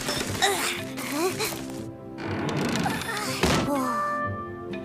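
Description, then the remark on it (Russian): A large door opens with heavy, hollow thunks, a few solid knocks spread across a few seconds, fairly loud beneath voices and a busy background. “Какая большая дверь!”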